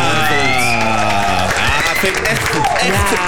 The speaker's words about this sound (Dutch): Echt een applaus waard. Want jullie zijn allebei echt grote bazen.